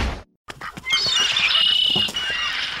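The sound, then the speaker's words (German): A dense chorus of birds squawking and chirping as they flutter about, with bright, high warbling calls layered over scattered short squawks, steady for the whole stretch after a brief silence. “Nummer 7, du kommst zu den Vögeln.”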